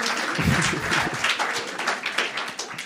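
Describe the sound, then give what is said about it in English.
A crowd applauds to welcome brothers and sisters from Chichester, England, many hands clapping in a dense, steady roar of overlapping claps that holds at a fairly strong level for the whole few seconds, with no voices over it. “Et je voudrais aussi qu'on applaudisse très fort et qu'on accueille aussi nos frères et sœurs d'Angleterre, de Chichester.”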